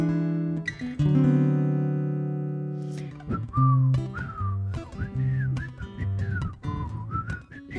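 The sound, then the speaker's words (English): Someone tries to whistle a tune, starting with a long held note and then moving through a string of shorter, wavering pitches with breathy edges. No one speaks. “I can't really whistle, but I'll try.”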